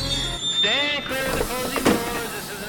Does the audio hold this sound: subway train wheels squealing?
yes